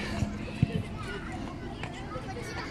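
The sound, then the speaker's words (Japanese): An electric train rolls by with a steady low rumble and a few soft rhythmic thuds near the start, mixed with faint indistinct murmuring. “あ、違う。これ電車や。”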